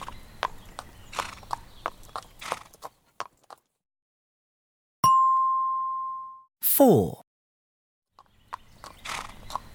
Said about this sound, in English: It's Daddy and a horse. Let's ride! Nay, nay.